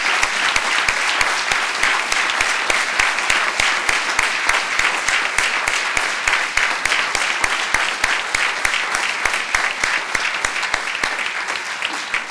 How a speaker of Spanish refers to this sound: Pido un aplauso para don Rafael en gratitud.